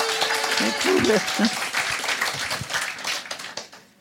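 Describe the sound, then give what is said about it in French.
Audience applause: dense, steady clapping mixed with a few voices calling out early on, then gradually thinning and fading toward the end. The audience is clapping to show they like the Action store. “On est fan de Action. Par applaudissement. Qui aime Action ici ?”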